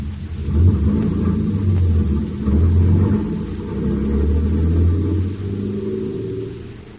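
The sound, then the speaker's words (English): A big truck's heavy engine rumbles low and steady, swelling and easing in loudness as it drives along, with no voices over the continuous deep drone. “In the dark interior of the van, Buzz and Happy are aware only of motion, and of swerves from side to side as the big truck rumbles to an unknown destination.”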